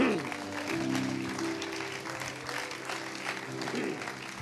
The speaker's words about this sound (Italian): Diamogli un applauso meraviglioso.